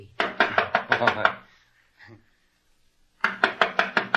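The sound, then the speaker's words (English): Two quick bursts of firm knocking on a wooden door, six or seven raps each, separated by a pause of near silence with a faint brief sound in between. “I'll knock on the door.”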